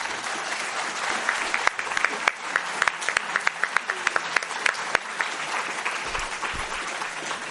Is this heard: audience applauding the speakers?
yes